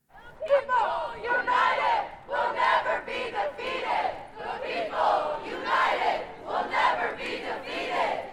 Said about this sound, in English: Concluding the rally, organizers and protesters took to the main quad, their chants echoing throughout.